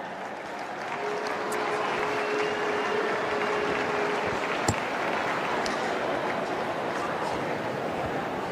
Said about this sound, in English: Let's hear a round of applause for our umpires today.